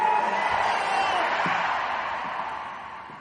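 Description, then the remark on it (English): A large audience shouts a big "amen" together in a loud, sustained roar of voices, a broad crowd noise that swells at once and slowly fades over a few seconds. “Everybody scream a big amen.”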